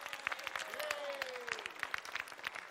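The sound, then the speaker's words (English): A youth group of young people claps for themselves in dense, steady applause, many hands striking at once, lively, with a few faint voices and a rising whoop mixed in. “And I like it that the young people even clap for themselves.”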